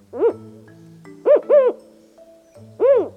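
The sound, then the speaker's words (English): A Mexican spotted owl calls four times in a clear, rising-and-falling hooting pattern: one call, a pause, a quick pair, then a final call, with a low steady hum underneath. “This one is a Mexican spotted owl.”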